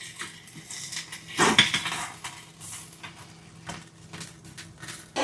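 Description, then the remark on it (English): Clattering dishes and cutlery as baked fish is served onto plates for dinner, with scraping and clinking of utensils on plates, a louder burst of rattling in the middle, then lighter taps and clinks over a low hum. “Let's serve up the fish.”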